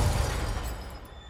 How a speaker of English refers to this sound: At his urging, the limo races faster and faster, swerving in and out of traffic. And then it crashes.